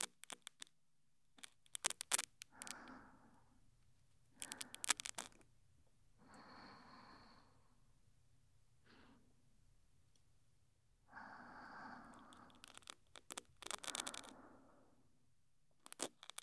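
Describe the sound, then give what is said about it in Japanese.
Intimate scraping and crackling in short bursts, with sharp clicks between soft rustling strokes, as an ear pick scratches out fine bits of earwax, with no talking. “細かい垢が早速取れていってますよ。”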